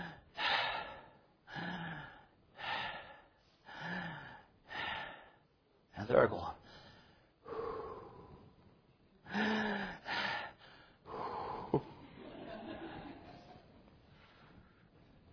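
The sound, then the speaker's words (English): A voice imitates the slow, rhythmic breathing of someone about to fall asleep, King Saul in the biblical story of David. It is a steady run of heavy breaths with snoring snorts, fairly loud, followed by a few spoken words and more drawn-out breaths. “because their snoring just goes at a certain, no, because the breathing goes at a certain rhythm. And you know that they're about to become unconscious.”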